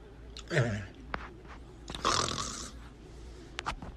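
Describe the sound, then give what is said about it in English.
A voice makes two short, raspy growling roars, like someone pretending to be a dinosaur, with a quiet pause between them and a few soft clicks and breaths. “Dinosaur.”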